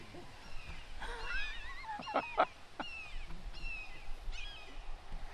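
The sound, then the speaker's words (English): A hawk calls in the background, a series of shrill, descending cries repeating every second or so over faint outdoor ambience, with no one speaking. “I'm hearing all kinds of birds in the background, and I'm glad it's a hawk and not a vulture.”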